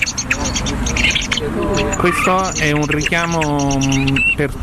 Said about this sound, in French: Ça, c'est un appo, un appelant électronique pour les grives. Dans ce cas, le braconnier a utilisé son smartphone comme appo. Il a installé une application pour reproduire le son des grives et il l'a utilisé comme appelant.